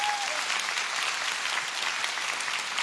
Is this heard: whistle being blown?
no